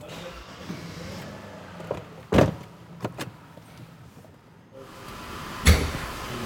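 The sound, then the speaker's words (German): A car rumbles low and steady as it is driven outside, with several sharp clunks like doors or body panels knocking, the loudest near the middle and another toward the end. No one speaks. “Ich fahre den mal da draußen hin.”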